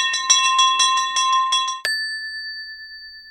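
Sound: school bell ringing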